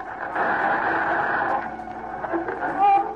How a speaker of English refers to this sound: There's the interference again. Cut off the radio.